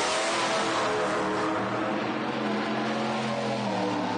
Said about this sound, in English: Well, it's a 6.6 liter, about 403 cubic inch V8 Duramax diesel. Like, comes in a pickup truck or a Top Kick or a Kodiak, right. You know, the medium trucks. Sure. It's got aluminum heads, which that's how they come.